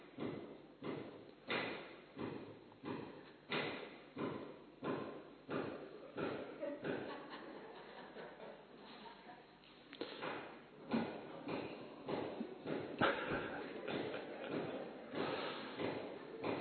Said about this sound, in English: To understand, someone is hammering. They must be fixing something. They must be fixing something because it was broken.